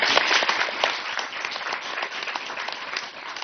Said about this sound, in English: So please help me give a round of applause to our speakers today.